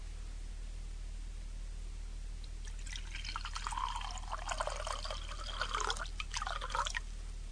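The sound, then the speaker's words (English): Wine is poured into a glass after a few quiet seconds, a steady gurgling stream that briefly eases, then resumes with a rising, filling tone before stopping. No one speaks. “Let me pour it for you.”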